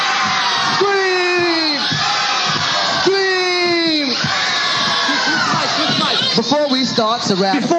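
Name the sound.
crowd screaming and whooping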